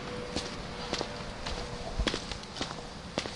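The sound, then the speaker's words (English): Foley footsteps tread along in an uneven rhythm, roughly eight sharp steps over a few seconds, moderately loud against a steady hiss, with no voices. “Driving all up on my Foley footsteps.”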